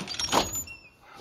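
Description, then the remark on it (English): A door is unlocked and pulled open: a quick mechanical clunk followed by a short, fading whir and rattle, with no voices. “Unlock the door.”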